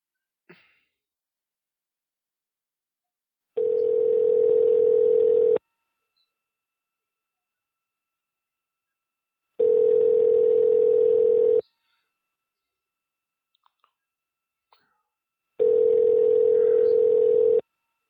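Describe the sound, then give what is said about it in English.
A steady, mid-pitched telephone tone after the caller hung up sounds in three loud bursts of about two seconds each, separated by longer silences with a few faint clicks. No one speaks. “And he hung up.”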